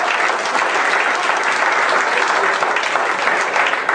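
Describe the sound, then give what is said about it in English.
Sustained audience applause, a dense, steady wash of many hands clapping at once, loud and even for the full few seconds with no voices standing out. “Give a lot of hand applause in that.”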